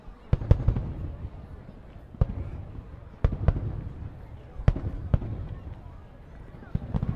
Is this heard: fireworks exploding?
yes